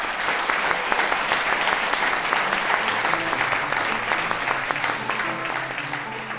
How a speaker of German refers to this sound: Und zum Abschluss würde ich einfach nochmal sagen, Applaus